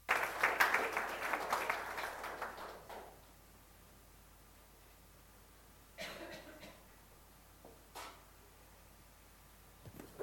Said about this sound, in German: Der Applaus gehört eindeutig Jesus.